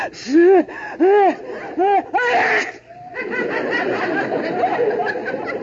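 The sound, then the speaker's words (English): A sneeze coming from a closet builds through three or four loud, pitched 'ah' gasps before a sharp, breathy burst, then a steady wash of crowd murmur and laughter follows. “That sneeze came from the closet.”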